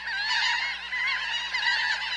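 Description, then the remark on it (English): Harsh, nasal calls of laughing gulls overlapping in a continuous chorus, several birds squawking at once with a steady, strident tone and no talking. “Some gulls, like these laughing gulls, and also the Bonaparte's gull, add dapper black or brown hoods for the breeding season.”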